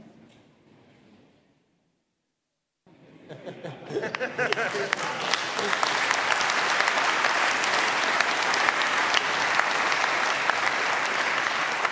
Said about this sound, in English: And let's give them again a warm round of applause.